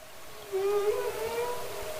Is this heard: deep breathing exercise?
no